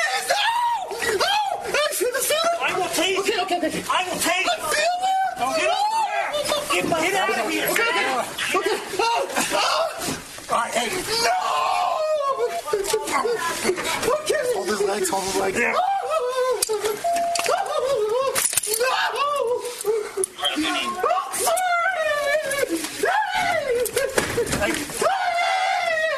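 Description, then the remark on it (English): A man screams and wails almost nonstop, loud, strained, high-pitched cries rising and breaking, with muffled commotion behind him, recorded on a body camera as people try to get him on the ground, gain control of him and handcuff him. “And that screaming and caterwauling goes on for a bit.”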